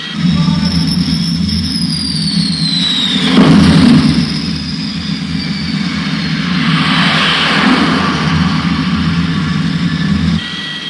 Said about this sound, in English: Now that he's clear of the arresting gear, we're rolling along the deck of the carrier, broad as a giant ballroom, way down to the prow. To the front of the ship.